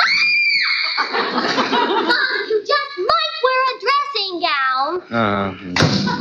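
A 10-year-old girl screams loudly and high-pitched as her father opens the bathroom door, in a series of wavering, shrill cries that rise and fall over several seconds, with a short pause before a final shriek.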